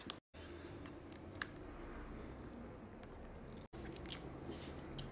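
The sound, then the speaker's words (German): Someone bites into a soft mango ice cream treat and chews it, with steady wet, squishy mouth sounds and small crunchy clicks continuing for several seconds, with no talking. “Will ich zuerst reinbeißen? Ja, klar.”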